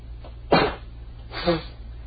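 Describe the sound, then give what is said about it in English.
Two abrupt sneezes about a second apart, fairly loud, the first sharper than the second, with a faint low hum underneath and no talking. “Something's making me sneeze.”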